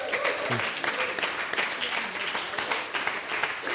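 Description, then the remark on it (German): Steady applause from a crowd in a tent in Rheinach fills the whole stretch, dense and continuous, with a few voices murmuring faintly underneath. “Ein Applaus für den”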